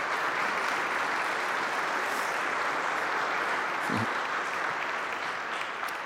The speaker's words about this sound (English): And it would be wrong of me not to say thank you to all of that that happens for the sake of these moments. So can we just say thank you with our applause this morning for all of that?